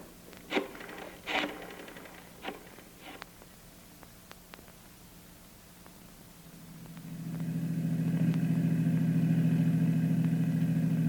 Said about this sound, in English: Want me to stay in the car? That's right. Keep the engine running.